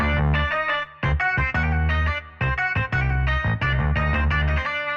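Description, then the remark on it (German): A distorted plucked saz plays a quick, ornamented melody in a Mediterranean scale over a heavy distorted bass riff with a little reverb, its tone sweeping open and closed with a wah-wah pedal filter. Loud and continuous with short rhythmic breaks, no voices. “Mit schönen kleinen Schlenkern in dieser mediterranen Skala und mit einem Wawa-Pedal, das quasi den Filter immer auf und zu macht.”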